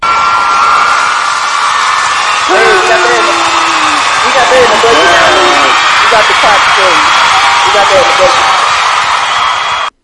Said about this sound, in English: That's a hell of an applause. Way better than when I get on Twitter.